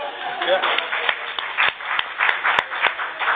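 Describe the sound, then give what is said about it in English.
A small audience in a room claps steadily for a few seconds, a dense patter of hand claps with a few sharper ones standing out, and faint voices mixed in. “Can I suggest applause”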